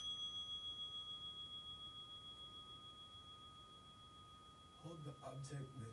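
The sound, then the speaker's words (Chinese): A meditation bell, rung to signal the start of a meditation exercise, rings with a clear, sustained tone that slowly fades over several seconds, and a person starts speaking just as the ring dies away. “铃声会响，就会开始。”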